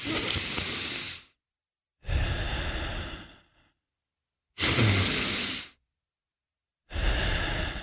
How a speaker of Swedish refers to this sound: Jag andas, jag fick tipset att det ska vara typ som 2 sekunder in och 3 sekunder ut. Så att egentligen är det väl, alltså jag andas genom näsan nu. I början börjar med munnen, men det är som med näsan.